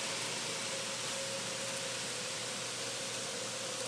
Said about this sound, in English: Now the rain is stopping.